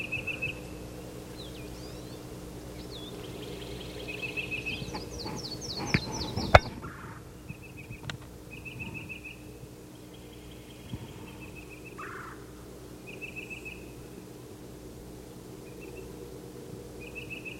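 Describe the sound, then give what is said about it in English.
A yellow-throated warbler, pumping its tail as it calls, gives short, high call notes, repeated in brief bursts throughout, and gets an answer, with a quick run of notes in the middle, over a steady low hum and no talking. “Okay, it's yellow calling. He's getting an answer.”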